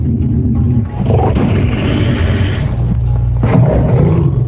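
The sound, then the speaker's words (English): A lion roars loudly, a deep, rumbling growl that swells and holds for several seconds, with a harsh surge near the end and no voices, as the half-man, half-lion form of Lord Nrsingadev emerges from a pillar before Hiranyakashipu. “In amazement, Hiranyakashipu wondered, what is this creature that is half man and half lion?”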